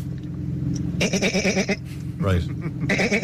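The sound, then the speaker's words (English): A person in Limerick imitates a goat's bleat, using the gullet at the back of the mouth, with a rapid, wavering, stuttering voice in a couple of bursts, followed by brief talk. “When you're doing a goat sound, you really have to use the gullet at the back of your mouth.”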